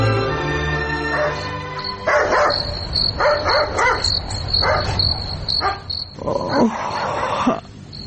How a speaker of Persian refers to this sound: اینکه چرا در نصف شب سگ جف می زند و بعدن چی اتفاق می افتد این را در درامه می شنویم